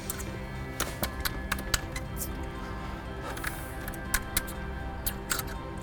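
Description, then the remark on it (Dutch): A small key is tried in a big door lock to see if it fits, scraping and clicking in a run of irregular metallic taps and rattles over a low steady background hum. “Denk je nou serieus dat zo'n klein sleuteltje op zo'n grote deur past?”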